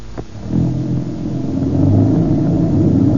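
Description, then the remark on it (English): A car engine starts to pull away, its low rumble building and holding steady as the vehicle accelerates, with no voices over it. “Boy, what a difference. Some car, all right.”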